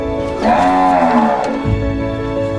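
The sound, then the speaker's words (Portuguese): A dairy cow on a farm in the Mantiqueira region lets out one long, drawn-out lowing call, loud, followed by a low steady rumble of background noise. “Sombra da gigante araucária, símbolo da Mantiqueira, que as vacas leiteiras da fazenda do Alto Condado costumam ficar.”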